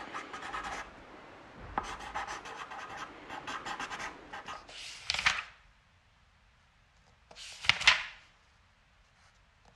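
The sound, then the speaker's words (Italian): Felt-tip markers squeak and scratch across paper in a run of quick, uneven strokes, then two louder, longer swishing strokes follow after a pause. No voices. “Sono pennarelli.”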